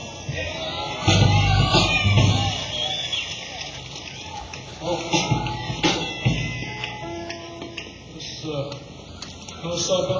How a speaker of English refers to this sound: Let's give a round of applause for Byron.